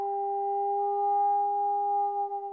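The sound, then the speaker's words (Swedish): A sonar pulse is sent down into the water from a boat above the Challenger Deep to measure its depth. It sounds as a steady, pure electronic tone, mid-pitched with a faint higher overtone, holding unchanged for over two seconds with no voices, wavering slightly as it ends. “Och det man har gjort då är att skicka ner ljudvågor.”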